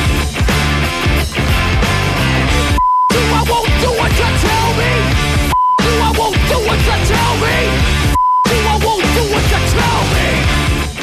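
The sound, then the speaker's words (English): A loud, dense rock track is cut out three times at roughly even intervals, each gap replaced by a short, steady, high-pitched censor bleep before the music resumes. “Notice that beeping noise? That's partly bourgeois, fascist, middle-class, Nazi government-controlled censorship.”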